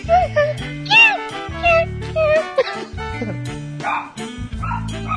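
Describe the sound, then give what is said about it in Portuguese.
A dog barks and yips repeatedly in quick, uneven bursts, some rising into whiny, pitched yelps, fairly loud over a steady low droning background. “Cara, dá um tiro de 12 nesse cachorro, senhor.”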